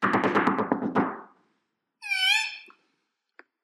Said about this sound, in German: Ich staune jedes Mal über das schöne Rüebli-Haus vom Hase. Ja, sag nichts. Komm, ich klopfe gerade mal.